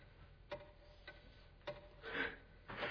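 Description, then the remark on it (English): A clock ticks in slow, even beats, the sharp clicks fairly faint, followed by a couple of softer rustling bursts near the end. “God, there must be something wrong with that clock.”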